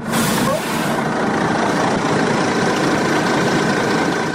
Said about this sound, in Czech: Autobus sa oko 80 migranata izbjeglih iz država Bliskog istoka zaustavlja se na oko 4 km od graničnog prelaza Horgoš.